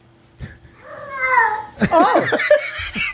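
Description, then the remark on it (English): A hungry cat meows twice in close succession, the first a long drawn-out wail and the second a shorter, sharper cry, both fairly loud. “Somewhere in Moscow, there is a hungry cat.”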